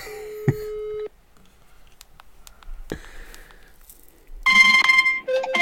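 phone call ringing tone

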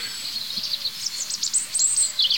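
birds singing

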